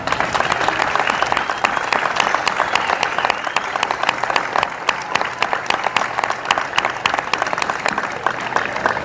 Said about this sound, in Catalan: i com no dir-ho, en tot el recolzament que tenim per part de l'Ajuntament, com que el segon aplaudiment també ha d'anar per aquest Ajuntament.